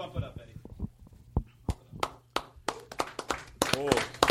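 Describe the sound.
A few people clap unevenly, sharp separate claps in an irregular rhythm that thickens toward the end, with some murmuring voices and a low hum underneath.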